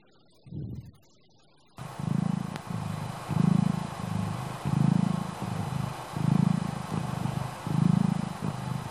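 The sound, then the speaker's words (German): A cat purrs steadily, a low, rumbling vibration that swells and fades in an even rhythm with each breath, after one short soft rumble at the start and a brief pause. “Eine schnurrende Katze.”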